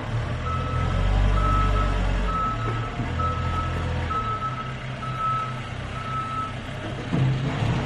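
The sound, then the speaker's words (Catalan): A truck's reversing alarm beeps steadily, about seven evenly spaced high-pitched tones, over a loud, low engine rumble amid construction-site noise on a residential side street next to the works, with no one talking. “En un carrer lateral, l'impacte de les obres se sent amb particular intensitat.”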